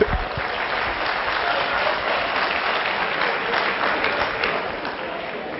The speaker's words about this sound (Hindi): मैं बोलता था तो आप नहीं हंसते थे, सर खड़े हो जाओ, ताली तो बजा दो अच्छे से।